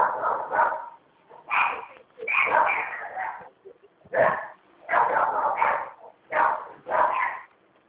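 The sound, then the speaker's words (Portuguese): A dog barks repeatedly in bursts at people passing in the street, several sharp yaps and barks in quick clusters across several seconds, loud, with short pauses between volleys. “Passando gente na rua, o cachorro tá doidinho, né?”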